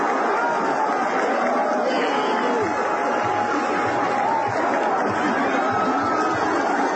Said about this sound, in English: And there's your second roar of the crowd.